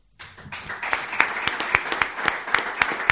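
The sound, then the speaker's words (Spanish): Audience applause for Darío Brizuela at a press conference, steady and dense, with many hands clapping together and sharper individual claps standing out in a loose rhythm. It begins abruptly and builds slightly, staying fairly loud throughout. “El aplauso de las personas que han estado arropando a Darío Brizuela.”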